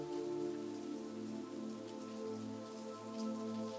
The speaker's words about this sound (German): Es ist ein angenehmer Morgen. Ein leichter Wind geht. Vom Weiten hört ihr das Meer rauschen.